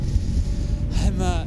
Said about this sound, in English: So, I rented a boat, and I headed towards that dome in the water. Oh my god, it's windy. It's really windy.